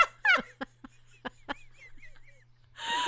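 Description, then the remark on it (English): A person does a chicken impression: a rising squawk followed by a run of short, clipped clucks, fairly loud, ending in a breathy burst. “Sound like a chicken.”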